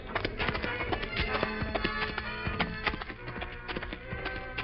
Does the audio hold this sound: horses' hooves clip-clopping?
yes